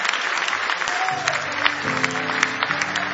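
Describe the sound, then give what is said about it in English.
An audience at a church service applauds steadily as a hand clap of praise to the Lord, a dense, even wash of many hands clapping throughout. About a second in, sustained low keyboard or organ-like notes begin beneath the clapping. “Give him another big hand clap of praise if you love him.”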